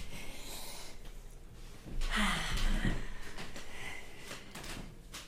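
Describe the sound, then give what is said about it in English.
A door is closed partway through, a muffled thud with a brief rattle and scrape, followed by quiet room noise. No one speaks. “closes the door.”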